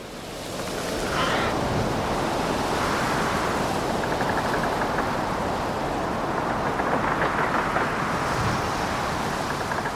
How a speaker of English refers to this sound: Hello, no introductory music today, just the sound of the wind and rain howling across the UK this morning